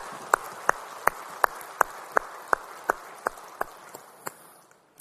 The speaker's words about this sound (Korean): 우리 찬양 받으신 주님께 영광의 박수 올리겠습니다. 할렐루야.